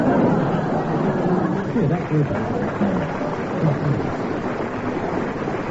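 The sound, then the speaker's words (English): A crowd applauds steadily, a dense, even wash of clapping that holds at the same loudness throughout, with a few voices faintly mixed into the noise. “They've already decided with their applause.”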